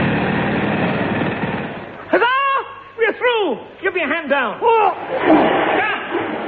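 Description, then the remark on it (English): A pneumatic drill digging through a floor rattles loudly and steadily for about two seconds, then a voice takes over with a run of rising and falling, whooping vocal sounds. “Inflate this pneumatic drill.”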